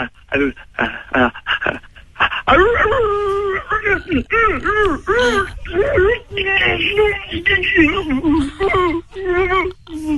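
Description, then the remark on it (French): A human voice imitates an enraged wolf: a few short yelps, then a long run of wavering, growling howls and whines, loud, with no other sounds. “Encore un petit loup, s'il te plaît. Le loup enragé, vas-y.”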